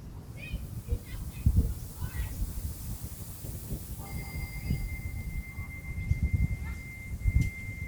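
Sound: bell ringing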